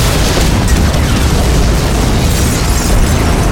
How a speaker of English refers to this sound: The explosion made the floor jump beneath Karis's feet.